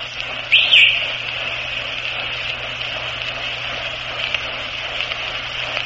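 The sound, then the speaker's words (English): Two quick, shrill whistle blasts from a coach at a baseball game ring out at the start, then fade into a steady wash of crowd murmur and hum from the ballgame. “That shrill whistle you hear is … coaching down there.”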